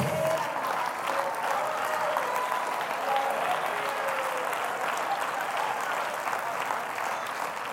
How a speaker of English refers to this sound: I can't clap my hands like this bunch can, and I can't shout like them.